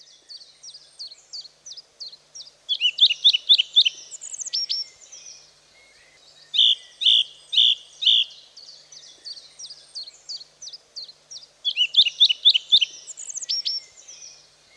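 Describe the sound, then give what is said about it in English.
A song thrush sings alone, delivering bright, varied phrases and repeating several of them three or four times in quick succession, with short pauses between bursts. “From March until April, song thrushes breed, often producing three broods of up to five blue, spotty eggs.”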